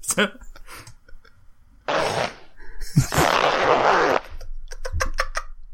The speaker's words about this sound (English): That's the worst zipper sound effect ever.